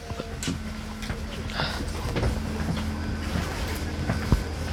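An S-Bahn commuter train rumbles steadily as it pulls away, with a low hum, rattling clicks and scattered thumps as it gets underway. No one speaks over the continuous mechanical noise.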